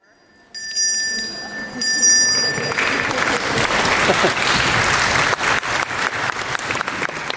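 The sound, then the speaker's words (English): A single bright bell, the timekeeper's bell telling panel speakers they are going over their time, rings out and lingers for about two seconds as an audience breaks into sustained applause that continues to the end. “This is the bell that tells them if they're going over their time.”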